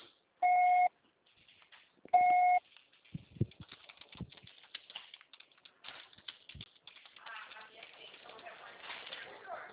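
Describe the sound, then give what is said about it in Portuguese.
A voicemail recording beep sounds twice, each a loud, steady mid-pitched tone under half a second long, followed by faint clicking, tapping and rustling noise. “Grave seu recado agora.”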